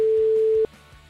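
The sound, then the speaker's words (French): A single steady telephone ringback tone sounds for just over half a second, then cuts off, leaving a faint quiet line with no answer and no voices. “Imagine, la personne ne répond pas. Mais je change de ligne.”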